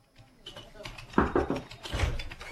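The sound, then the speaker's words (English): A few quick raps on a door, followed almost immediately by the door opening with a rustle and clatter of movement, against a faint murmur in the background. “What's the point of knocking if you don't wait for an answer?”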